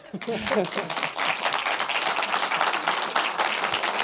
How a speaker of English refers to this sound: I will send the applause to her.